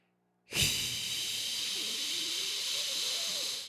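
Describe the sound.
A voice imitates a kettle heard from inside a house, producing one steady, loud, breathy hiss that starts abruptly and holds evenly for about three seconds, with no other sounds.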